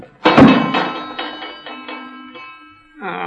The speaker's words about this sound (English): The jar opening that door made the bell ring.